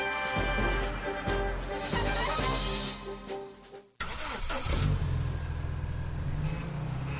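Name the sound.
car engine revving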